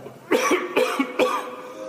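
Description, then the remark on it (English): A man coughs three times in quick succession, harsh, raspy bursts evenly spaced about half a second apart, loud against a quiet background with no talking. “Gosh, sounds like that guy could use a drink of water.”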